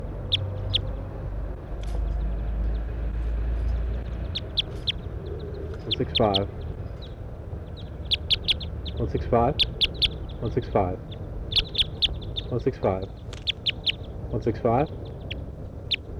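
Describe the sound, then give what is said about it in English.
A pair of wild birds, a female and a male, up in a pine tree call several times in short, harmonic, slightly wavering notes, spaced a second or two apart, over a steady low rumble with faint chirps in the background. “A couple of wild birds up in the pine tree. One gave a toop.”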